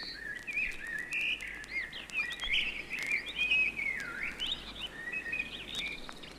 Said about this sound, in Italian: Chioccolavano i merli curiosi.